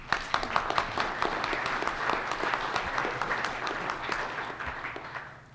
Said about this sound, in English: I think this is a great opportunity to welcome with a round of applause, José Luis Sardón.